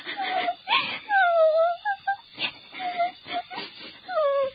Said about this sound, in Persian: وقتی بیدار شدن، شب شده بود. گرتل گریه میکرد.